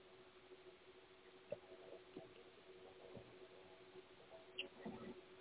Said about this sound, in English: I gotta take a drink of water. Excuse me.